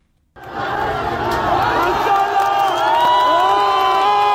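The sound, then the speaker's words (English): A large crowd at a protest in Tehran, Iran, in early January cheers and shouts loudly and continuously as a man dangling from a lamppost smashes CCTV cameras, many overlapping voices rising in whoops and yells after a sudden start, sustained at full volume throughout. “Dangling precariously from a lamppost in Tehran, a man smashes CCTV cameras as a crowd cheers his act of defiance.”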